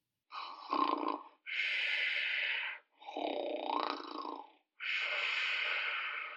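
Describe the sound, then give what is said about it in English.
Loud snoring from a man dozing at the back of an auditorium, in a steady rhythm, two full cycles of rumbling inhales followed by broad, hissy exhales, resonant and echoing in the auditorium's acoustics, with no talking. “upon hearing what sounded like loud snores amplified by the room's acoustics.”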